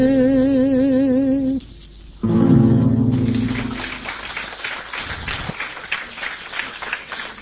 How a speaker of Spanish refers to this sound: Gente muy joven aplaude hoy